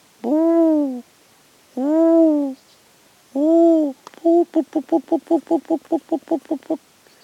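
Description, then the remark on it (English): A person imitates the hooting call of a pheasant coucal, a long-tailed cuckoo, giving three long, drawn-out hoots, then a quick run of about fourteen short, bubbling hoots. The voice is fairly loud. “Well, this one, the long tail one, I think that's a pheasant. That's a called giribut. Yeah, well, cuckoo, long tail pheasant, cuckoo, yeah.”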